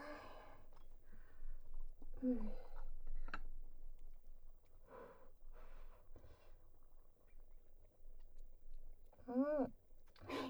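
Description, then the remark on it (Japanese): Soft kitchen handling noises as someone checks a pot of food being cooked, a lid and utensils shifting around the pot, followed by quiet sipping and mouth sounds of tasting, with a couple of brief hummed vocal murmurs. “あとはお鍋がどうなってるか。”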